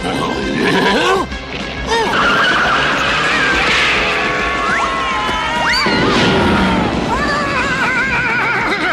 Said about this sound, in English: I won the chariot race?